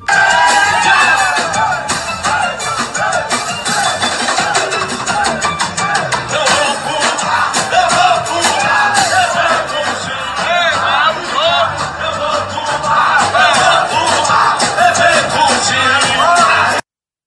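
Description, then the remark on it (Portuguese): A loud stadium crowd of Fortaleza football fans, enjoying a forró show inside the stadium during a match against Fluminense, sings and shouts together in a dense, continuous roar, with scattered whoops and yells rising above the steady mass of voices throughout. “O jogo rolando e os torcedores curtindo o show de forró dentro do estádio.”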